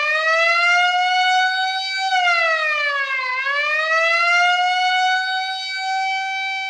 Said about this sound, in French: La sirène. Non, mon cher Debussy, pas ces sirènes-là. Mais celles qui, au départ, n'ont pas été prévues pour être utilisées dans la musique. Celle qui annonce un danger, une attaque, qui attire l'attention